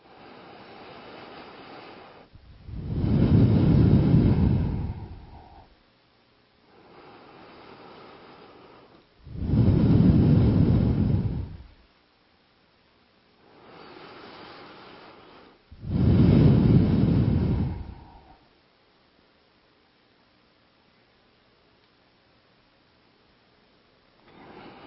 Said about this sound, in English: Now third round, not from the mouth, from the nostril. Nostril begin with inhale and exhale, okay?